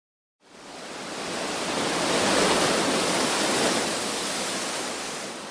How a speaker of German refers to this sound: Atlantikwellen rauschen an die Vulkanfelsen im Nordwesten der kanarischen Insel Teneriffa.